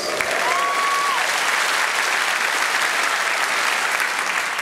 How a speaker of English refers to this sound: Quite difficult. Sometimes this gets a little pitter-patter of applause. This is the one-handed riffle shuffle.